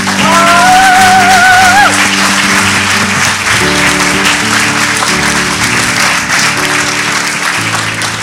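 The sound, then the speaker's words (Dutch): A church audience applauds steadily and loudly to honour and thank people for their work, a dense wash of clapping that holds for the whole stretch, with organ or keyboard chords sounding underneath and a brief rising whistle-like tone early on. “Zullen wij hen eren? Gewoon met een applaus.”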